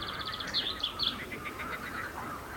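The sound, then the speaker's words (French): A bird sings a steady run of quick, high chirps and short trills, fairly soft, over a faint outdoor hiss with no voices. “Le vent dans les feuilles, le chant d'un oiseau, le bruissement de l'eau.”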